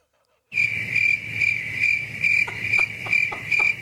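Crickets chirp steadily after a brief silence, a continuous high-pitched trill pulsing in a regular rhythm, moderately loud over a low background hum.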